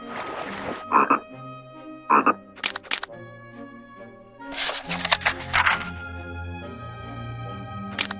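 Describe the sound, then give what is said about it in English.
A frog croaks in several short, raspy bursts, with a cluster of louder croaks near the end, all over gentle sustained background music and no talking. “Just then, a frog popped his head out of the water.”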